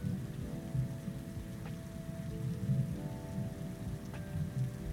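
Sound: rain falling outside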